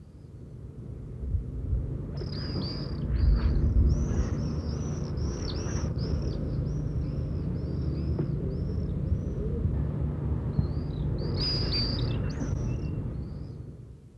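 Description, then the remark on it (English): Swifts scream around the houses in Arundel in shrill, high-pitched bursts, a rapid run of calls followed by a short pause and another flurry, all over a steady low background rumble. “Here's some swifts screaming around the houses in Arundel.”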